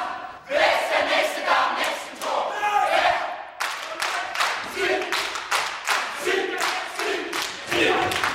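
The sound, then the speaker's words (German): A gigantic chorus in a stage production of Antigone shouts a rhythmic, martial chant in unison, punctuated by loud stomps and claps in a steady beat, forceful and sustained throughout. “Da wird gestampft, geklatscht und skandiert.”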